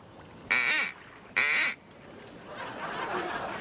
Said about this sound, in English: All right, blow the duck call.